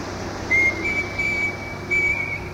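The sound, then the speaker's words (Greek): A person whistles a short local folk song tune, clear, with sustained notes shifting between a few pitches over a faint background hiss. No one speaks. “Θα σου σφυρίξω λιγάκι.”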